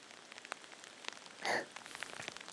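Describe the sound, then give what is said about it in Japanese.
Steady rain patters on a hard surface, with scattered individual drops ticking through and a brief louder splash of water midway, no voices present. “先生は雨好き？”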